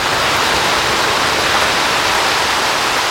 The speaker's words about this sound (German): Die lange Dürre ist fürs Erste vorbei in Ostafrika. Der Regen ist gekommen in diesem Frühling in gewaltigen Mengen.